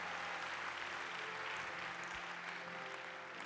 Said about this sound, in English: If you believe it, shout amen. Give him a hand clap of praise in the house today.